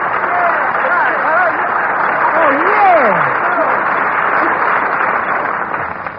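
A studio audience on Jack Benny's Jell-O radio program applauds steadily and loudly. The dense wash of clapping fills the whole stretch, with a few whoops or whistles rising above it before it starts to fade at the end.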